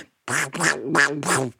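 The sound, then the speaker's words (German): A person imitates a frog's croak in answer to a quiz question, with four quick, nasal, duck-like bursts in a steady rhythm, fairly loud, with no other talk. “Welches Geräusch macht ein Frosch?”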